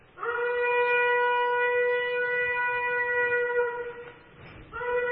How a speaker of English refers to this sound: Ram's horn. I had to find a trumpet player who could do that. And it's a lot harder than playing a trumpet.